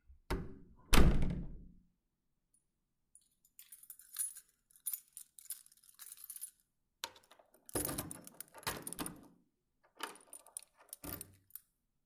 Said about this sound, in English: Let me just go and lock the door.